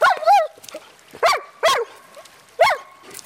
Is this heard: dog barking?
yes